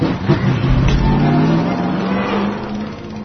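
A tractor engine revs and pulls away, its low droning pitch climbing steadily as it accelerates, loud throughout with no talking over it.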